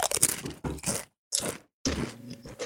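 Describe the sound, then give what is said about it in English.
Loud crunching of crunchy taco-flavored Doritos tortilla chips being bitten and chewed, in several bursts separated by short silences, with no talking. “I'm doing the crunchy taco.”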